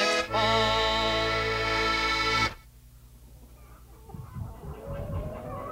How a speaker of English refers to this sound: listen to those chickens. Something's bothering them.